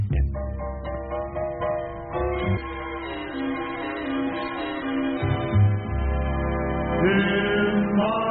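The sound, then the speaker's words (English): An old phonograph record of a vocal group singing in close harmony, sustained voices blending over a low accompaniment, steady and moderately loud, playing on without interruption. “Play the record now.”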